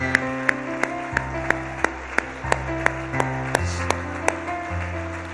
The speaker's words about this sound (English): Would you clap your hands to the Lord with all of your might? Clap your hand for His Word. Clap your hands for His Word.